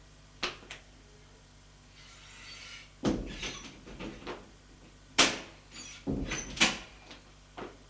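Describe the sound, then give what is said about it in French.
A door at the end of an alley in a run-down, dirty building being opened: a series of sharp clicks and knocks from the latch and handle, a brief scraping rustle, then more thuds and rattles as it swings and settles. “Ouvre une porte.”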